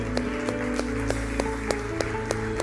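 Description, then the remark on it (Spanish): An audience claps for Christ in steady unison, roughly nine sharp claps at an even beat, over a sustained low musical tone. No one speaks. “Damos un aplauso a Cristo esta tarde.”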